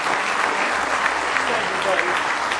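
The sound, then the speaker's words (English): A church audience claps together as a hand clap of praise to God during a morning service, a sustained, dense burst of applause, steady and fairly loud throughout, with a few indistinct voices mixed into the clapping. “Give him one big hand clap of praise if you love him this morning.”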